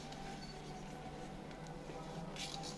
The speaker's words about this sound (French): Alors, on commence par plier le papier selon la diagonale. Donc, on choisit une diagonale du papier.